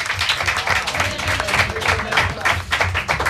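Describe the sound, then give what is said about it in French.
A steady wash of applause from an audience, dense overlapping claps sustained at fairly even loudness for a few seconds with slight surges, with voices mixed faintly underneath. “Bien sûr, on peut les applaudir.”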